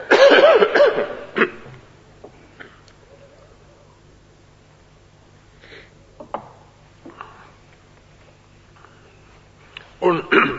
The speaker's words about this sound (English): I'm hampered by this thing because if I cough as I want to cough, it'll blow your heads off, so I'll take it off.